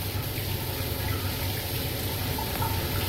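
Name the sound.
running water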